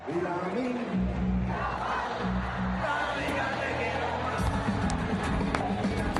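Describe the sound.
A large group of voices chants a football anthem together in unison, a song that became an anthem during the European Championship; a loud, steady, sing-song crowd refrain with sustained low tones and noisy cheering underneath for the whole stretch.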